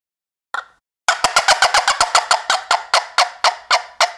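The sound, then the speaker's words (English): A turkey hen fly-down cackle, imitating a hen flying down, played on a turkey call that is not chalked up: one lone note, a short pause, then a rapid burst of sharp, raspy clucks that gradually slow and spread apart over about three seconds. “But that's a fly-down cackle. And again, I like to do that if I want to imitate a hen flying down”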